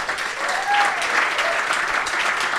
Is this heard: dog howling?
no